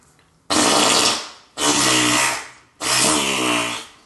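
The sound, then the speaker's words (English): Three loud, wet farting blasts in a row, each about a second long with a sputtering, raspy buzz that tapers off, separated by short pauses. Prominent, with no talking. “Yeah, I agree with the wet fart.”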